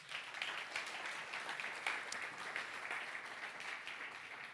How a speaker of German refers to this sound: Super, merci vielmals euch. Ich glaube, heute dürfen wir einmal klatschen. He?